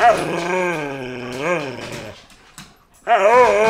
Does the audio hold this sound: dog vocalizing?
yes